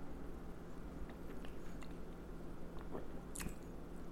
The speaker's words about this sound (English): I'm going in for sip number two.